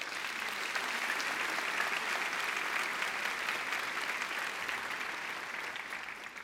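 An audience claps steadily for several seconds, a dense, even wash of many hands with no pauses, holding loud throughout and easing off only slightly at the very end.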